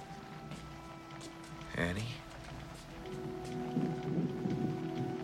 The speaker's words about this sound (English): The rain. Sometimes it gives me the blues.